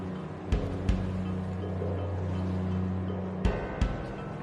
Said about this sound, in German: Und je weiter wir rauskommen, umso höher werden die Wellen und umso schaukeliger wird's hier an Bord.